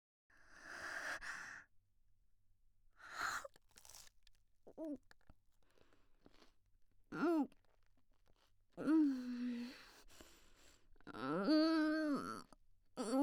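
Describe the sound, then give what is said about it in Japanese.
Crisp crunching of someone chewing a Jaga Jaga-kun snack, coming in short bursts, broken up by breathy sighs and drawn-out moaning vocal sounds between bites. “ダマになってるザーメンが咀嚼の邪魔をしてくるぞ。”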